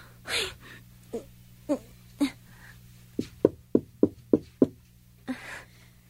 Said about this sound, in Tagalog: Kailangan ko nang kumatok sa pinto para malaman ko na agad kung ano yung sagot sa tanong ko.